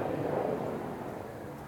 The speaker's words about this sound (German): Jetzt kommt gerade ein Helikopter.